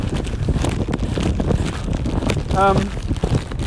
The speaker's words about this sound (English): The sun, it's still a bit windy as you can probably hear, but the sun has made an appearance.